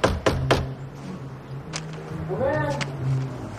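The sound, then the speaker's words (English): Three quick, sharp knocks land on an apartment door hung with a wreath, right at the start, fairly loud, followed by a low hum and a brief voice in the background. “She touches one of the ornaments dangling from the wreath and smiles, then knocks.”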